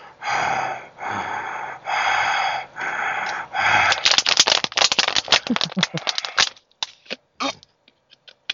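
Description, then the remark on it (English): Four loud, rasping breaths in a steady in-out rhythm, like breathing through a respirator mask, followed by a burst of crackly rattling noises that trail off. “As long as you're not breathing like Darth Vader.”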